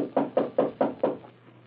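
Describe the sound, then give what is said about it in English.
Five firm knocks on a wooden door inside the City of the Dead, among tombstones in the moonlight, evenly spaced in a quick steady rhythm, fairly loud, then quiet. No one speaks. “Oh, here's the door.”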